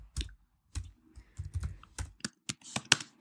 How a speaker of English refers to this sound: I'm typing sexy apron.